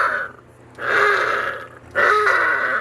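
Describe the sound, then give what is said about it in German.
Harbor seal pups, known as "Heuler" and raised at seal stations on Germany's North Sea coast, give two drawn-out, wavering howls, each about a second long with a short pause between, loud, with no talking. “heißen die Jungen, die auch Heuler genannt werden. Denn so hören sie sich an.”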